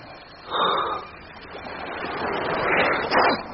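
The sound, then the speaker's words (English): Gentle waves of a calm sea at ebb tide lap and wash in soft, unhurried swells, one rising early and a broader surge building toward the end, with no voices present. “The sea is calm enough today, and the ship close enough with the ebb tide to swim to her.”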